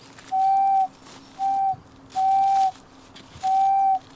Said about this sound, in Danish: Jeg synes, det er sjovt at snitte fløjter. Jeg har en i lommen her. Prøv at høre godt efter.